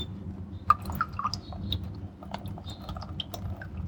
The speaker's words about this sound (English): I'm just using my water dispenser to put the water inside these bags, so it's taking a bit of time.